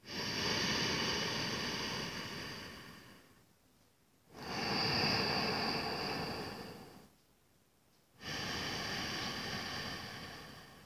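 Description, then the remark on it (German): Ujjayi breathing through a closed mouth with the tongue slightly drawn back: three long, loud, rushing breaths with a soft oceanic hiss, each lasting a few seconds and separated by brief quiet pauses, with no talking. “Und ihr könnt vielleicht auch die Einatmung jetzt hören, wenn die Zunge etwas zurückgezogen ist.”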